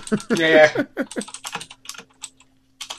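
Keys clatter on a computer keyboard in quick, irregular taps, some louder than others, with a short stretch of voice at the start and a faint steady hum underneath.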